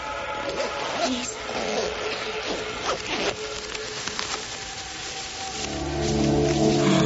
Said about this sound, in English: could you help me with these zippers, please?